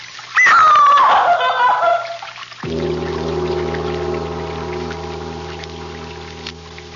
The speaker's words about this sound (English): That sound. Running water. Over this way.